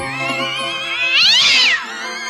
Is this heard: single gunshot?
no